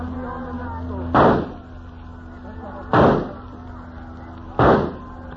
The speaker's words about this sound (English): Nobody will hear the shots. But you cannot hit him at that distance. And the boat is bobbing up and down. I've hit harder targets than that, and for less reason. Watch!